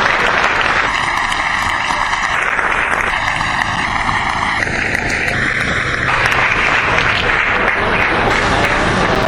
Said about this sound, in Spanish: El 21 hay un juicio a los compañeros que tomaron la comisaría de La Boca cuando mataron al Oso Cisneros, otro de los compañeros que murió por los más humildes, que dio su vida por los más humildes y que merece el aplauso de todos nosotros.